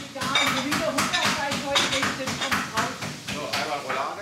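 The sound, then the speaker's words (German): A busy restaurant kitchen at peak service, staff carving, pounding, chopping, hacking and frying food: quick, irregular knocks and clatter like chopping over a constant sizzling hiss of frying, with people talking in the background throughout. “Hochbetrieb in der Küche, ein Duft von lecker Gebratenem zieht in die Nase.”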